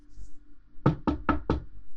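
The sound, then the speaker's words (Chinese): Four firm knocks on a door in quick, evenly spaced succession, solid, after a brief quiet moment with a faint low hum in the background. “亲爱的，开门。”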